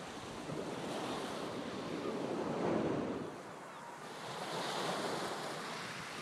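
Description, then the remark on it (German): Soft, steady surf of a calm sea washes onto a white sand beach on a warm summer late afternoon, swelling gently in broad waves that rise and fall every few seconds, with a faint breath of wind and no voices. “Ich spaziere an diesem späten Nachmittag gerade am Ufer eines ruhig rauschenden Meeres entlang, der tiefer stehenden Sonne entgegen.”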